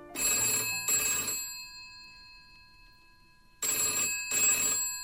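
An old-style telephone bell rings near midnight at a company's customer service department, in two bursts of rapid double trills separated by a pause with a lingering metallic ring, loud with no voices.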